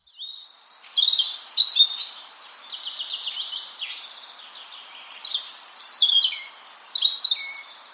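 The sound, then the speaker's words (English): A European robin sings a varied, liquid song of high warbling phrases and thin whistles, clear and continuous with brief pauses and no other sounds. “The beautiful song of the European robin.”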